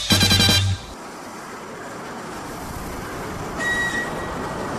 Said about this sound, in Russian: Электропоезд Воронеж прибывает на второй путь. Электропоезд Воронеж прибывает на второй путь.